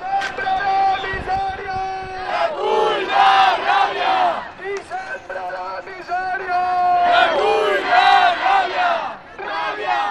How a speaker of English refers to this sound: Tonight in Madrid and Barcelona there were big demonstrations to follow up on the strike action. As many as tens of thousands of people congregated in the centre of Madrid, and students could be heard shouting on the streets of Barcelona.